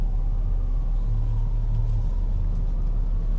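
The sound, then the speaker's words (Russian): Steady low rumble of city street traffic with cars and trolleybuses passing and people walking, engines droning continuously and a constant wash of road noise, no voices standing out. “Люди ходят, троллейбусы.”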